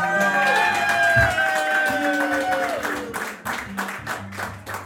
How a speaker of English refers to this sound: And if you want to applaud them at this point, that would be fine.